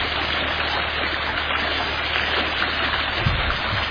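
creek water flowing

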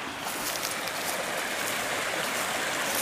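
flowing creek water

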